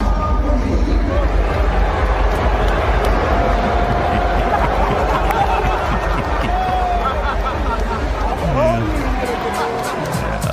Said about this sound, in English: Anyway, in sports, Tom Brady appeared at the Indianapolis 500 pre-race ceremony on Sunday, and it seems the locals haven't forgotten Deflategate from the 2014 AFC title game, or whatever. For whatever reason, Brady got booed.